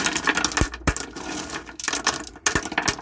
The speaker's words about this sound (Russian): Это не что-нибудь, это камни. У нас тут падают с неба камни. Падают они непрерывно. Я вот их кучкой собираю, сгребаю, потом собираю в пакетик.